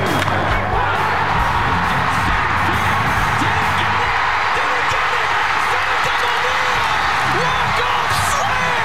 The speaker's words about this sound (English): That was a loud crowd there, drowning out the announcer.